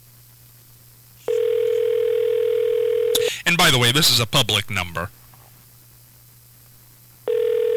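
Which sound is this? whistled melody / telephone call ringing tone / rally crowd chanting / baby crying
telephone call ringing tone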